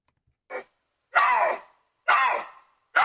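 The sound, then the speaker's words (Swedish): A lynx mating call: two lynxes screaming at each other, a short yelp followed by three loud, harsh, wavering screams, each about half a second long, coming in a steady rhythm with no talking over them. “Det är ju någon sån parningsljud, eller?”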